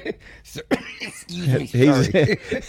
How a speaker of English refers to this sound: he's got something stuck in his throat and he's having coughing.